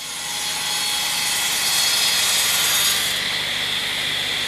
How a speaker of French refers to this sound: Ça, c'est ce qu'on appelle un rouleau ponceur.